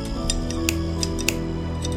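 Wire cutters snipping barbed wire at one in the morning, as someone cuts through defensive barbed-wire lines in the dark: a quick series of sharp metallic clicks, about ten in two seconds at an uneven pace, over a steady low hum.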